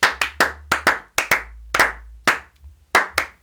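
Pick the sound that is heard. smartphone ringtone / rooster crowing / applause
applause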